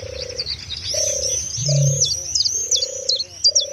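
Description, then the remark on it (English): Recorded birdsong from a single of pure bird song made from wildlife recordings: layered high, rapid chirps and trills over a repeating lower cooing call, like a dove, set against a steady outdoor background. No voices, fairly loud. “So why not draw the best attention to that by just putting out pure bird song?”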